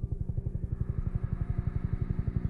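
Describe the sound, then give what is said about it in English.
A helicopter flying, its rotor beating out a fast, steady, low-pitched thudding that stays loud and even throughout, with a faint engine whine above and no voices. “She says, as soon as I hear helicopters, I fall back into that nightmare.”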